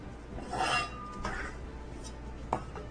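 A metal pot is set down on a gas stove with scraping, rattling contact, followed a moment later by a single sharp clank, over a steady low background hum; the gas is being lit to heat the pot for cooking minced pork sauce.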